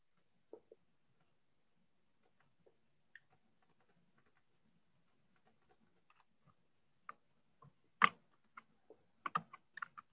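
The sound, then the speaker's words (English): Irregular clicking of keys on a computer keyboard, sparse at first and then quicker bursts toward the end, fairly quiet with no voices. “Anybody have any other thoughts while I'm awkwardly typing?”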